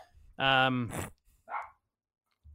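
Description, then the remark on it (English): Dogs bark right outside a door: a loud, drawn-out bark followed by a couple of shorter, sharper barks, then silence. “The dogs are losing their shit right outside the door.”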